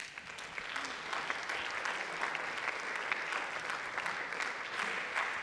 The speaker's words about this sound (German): Bitte gebt ihm einen großen Applaus.